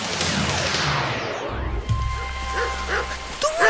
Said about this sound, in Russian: Дождь! Ветер! Холодно-то как!